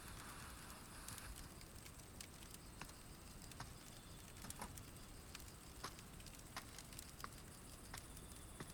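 A campfire at a campsite by a tent being put out: a steady hiss runs throughout, broken by scattered sharp pops and crackles at irregular intervals, with no voices.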